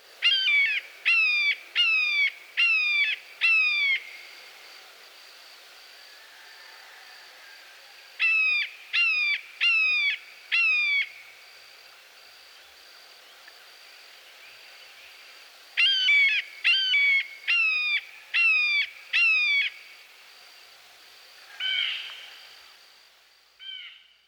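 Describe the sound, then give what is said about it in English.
A blue jay imitating a red-shouldered hawk gives loud, clear, descending screams in quick bursts of about five, repeated three times with short pauses and a final softer call. “It is interesting to note that the blue jay can mimic the buteos we have just heard. One of his calls is a close match for the red-shouldered hawk.”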